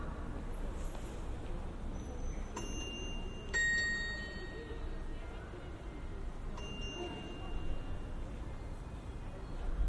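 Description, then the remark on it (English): Church bells chime a few times through a cobblestone square in Riga, the capital of Latvia, each high, ringing strike lingering and fading over a steady wash of traffic noise and faint murmuring. “Church bells chime through cobblestone squares.”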